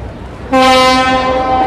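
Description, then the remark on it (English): A boat's horn sounds a single loud, steady blast signaling it is time to depart, starting abruptly after a brief quiet moment and holding a rich, buzzy mid-pitched tone to the end. “That's just the boat saying it's time to go.”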